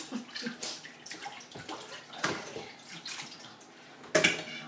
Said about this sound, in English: Okay. Some more water for the steamer now.